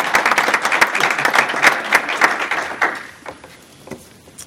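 A group breaks into dense, steady applause with many overlapping hand claps, which thins out after about three seconds into a few scattered, fading claps.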